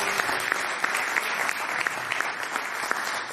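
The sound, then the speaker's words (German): Steady applause from an audience welcoming a guest, a dense patter of many hands clapping at once, fairly loud and continuous throughout with no voices over it. “Von daher mit einem riesen Applaus ein herzliches Willkommen”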